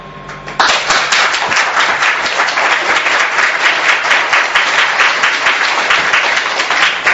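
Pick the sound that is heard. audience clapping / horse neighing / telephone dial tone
audience clapping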